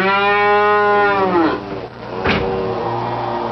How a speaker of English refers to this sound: I'm sorry, honey. I'm trapped in a traffic jam of cows. I can't. The cows. Oh, they're blocking the freeway. They're everywhere.